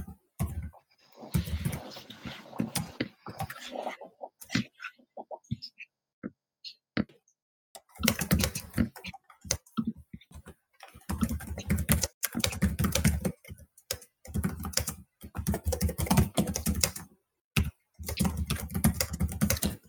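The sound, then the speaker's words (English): Rapid clicking of a computer keyboard being typed on to take meeting minutes, coming in dense bursts of keystrokes separated by brief pauses, loud and steady through most of the stretch. “This typing of minutes is just a pain.”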